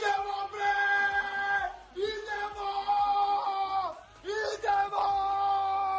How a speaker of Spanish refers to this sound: que gritaba y abría la ventana para que se escuchase el triunfo del equipo serbio,